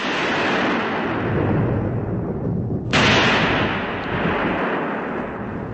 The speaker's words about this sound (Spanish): De repente estalló una tormenta.